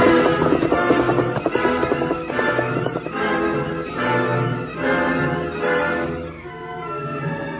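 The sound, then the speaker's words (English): A horse, Scout, gallops toward town with a rider in a steady, rhythmic clatter of hoofbeats, fairly loud and continuous, with the pounding easing slightly toward the end as if moving off. No one speaks. “He ran to his horse scout, quickly mounting, headed for town to get help.”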